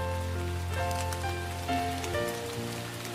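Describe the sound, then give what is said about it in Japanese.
Steady rain patters on a car, a dense, continuous spray of droplets with a low hum beneath, fairly loud throughout. “車に落ちる雨。”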